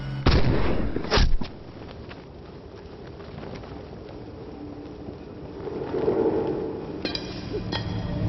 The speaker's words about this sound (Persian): نمیدونستم تفنگ میتونه اینقدر دور رو بزنه. میتونه.